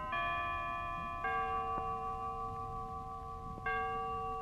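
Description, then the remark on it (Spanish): Bells of a nearby church chime the hour, announcing five o'clock, with three slow, resonant strokes heard, each ringing out and lingering into the next, at moderate volume with no voices present. “Las campanas de una iglesia cercana anunciaron las 5.”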